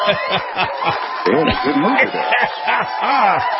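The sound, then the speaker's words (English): A group of people who came out of a bar cheer and whoop, many voices overlapping in rising and falling shouts, mixed with some laughter, fairly loud and sustained for a few seconds. “I think they're cheering the governor.”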